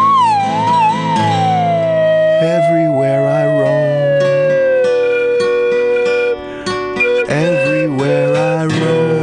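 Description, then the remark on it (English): A slide whistle plays a loud, sustained glissando that wavers at first, then sinks slowly and steadily in pitch over several seconds, with other pitched tones sounding underneath. “You do have perfect pitch on Slide Whistle.”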